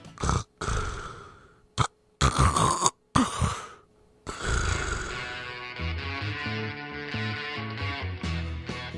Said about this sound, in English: It just never ends. The snoring, the choking, the endless sleepless nights. We either need a CPAP machine or a marriage counselor or both.